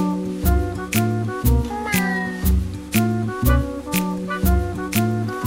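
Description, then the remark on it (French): Voices imitate cat meows in a song, with drawn-out mewing calls riding over a bouncy musical backing with a steady, regular beat, loud throughout. “Tout le monde, tout le monde sait faire miaou.”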